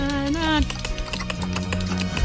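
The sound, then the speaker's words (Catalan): Someone imitates a horse's clip-clop with a quick, steady run of crisp clicks that continue throughout. A voice sings briefly at the start, and the clicking carries on under sustained tones. “Vinga, amb el cavall.”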